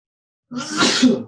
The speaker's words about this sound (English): I have to sneeze, hang on.